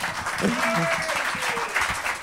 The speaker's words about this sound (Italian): Beh, detto da Eugenio Finardi, un applauso, dai.